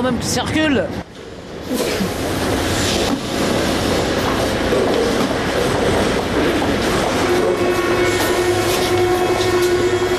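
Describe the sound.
A Paris metro train rumbles loudly along the rails, continuous, its motor whine rising into a steady high tone toward the end, with faint voices mixed into the din.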